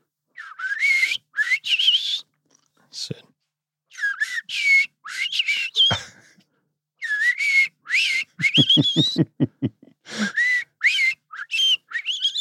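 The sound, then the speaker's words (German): A person whistles an imitation of European robin song: soft, high, warbling phrases broken by short pauses, with a quick run of rapid pulsing notes partway through. No one speaks. “Das erste war ein Rotkehlchen, so ganz zart noch.”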